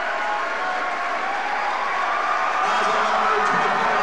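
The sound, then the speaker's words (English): A large crowd of A&M basketball fans, all on their feet at a sectional championship game, cheers and roars steadily, a dense wall of voices that swells slightly toward the end, with no single voice standing out. “They're all on their feet, cheering on A&M,”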